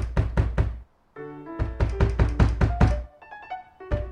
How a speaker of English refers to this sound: Then the singer comes back, starts pounding on the door.